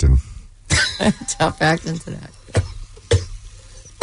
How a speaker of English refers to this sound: This cough. Would you get out of here already? Beat it. Seems like you're trying to get it out.